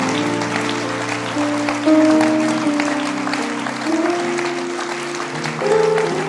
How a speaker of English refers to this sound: But you, even whether you will change or not, I want you to clap your hands, because you have been ministered to tonight. You have been ministered to tonight.